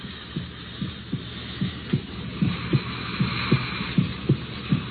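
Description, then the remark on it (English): A steady heartbeat heard through a stethoscope from a created thing that has come alive, low muffled thumps coming in paired beats at a regular pace, about ten pulses over a soft background hiss with no talking. “Listen. Stethoscope.”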